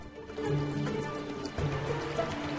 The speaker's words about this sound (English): One beaver dealing with a particularly large branch is joined by another. The water ripples all around as the branches towed off across the pond.